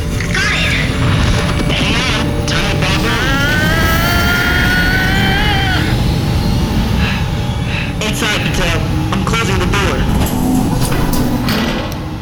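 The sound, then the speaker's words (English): A spacecraft engine roars to life: a loud, steady rumble with clanking hits, and a rising mechanical whine that climbs in pitch for a few seconds. Voices are mixed in. “I'm starting the engine.”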